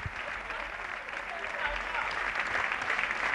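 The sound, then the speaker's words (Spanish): Sustained applause from football teammates forming a guard of honour as a player walks onto the pitch, a dense steady patter of clapping with some cheering mixed in, continuing throughout. “Pues ahí están los aplausos, una vez que está accediendo al césped, bueno, ya ha accedido al césped”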